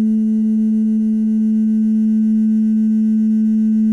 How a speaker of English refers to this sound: The synthesizer sound that you hear at the beginning is actually a glass that I had, and I made it turn into like a glass harmonica by, you know, using like wetting my finger and running it around the rim.